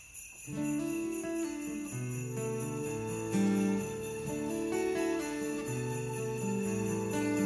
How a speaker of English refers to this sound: Sleigh bells.